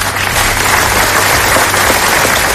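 Sustained applause from a large crowd ending a minute of silence held at midday at the Diputación de Toledo, Spain, for an 11-year-old boy; a dense, steady patter of many hands clapping at an even loudness throughout, with no voices rising above it.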